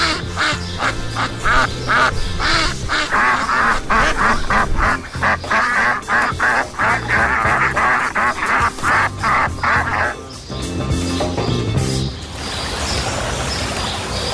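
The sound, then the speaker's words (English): A loud, busy chorus of ducks quacking rapidly and continuously, several birds overlapping, with a rougher flurry of noise near the end and no voices. “He could pluck ducks from the sky.”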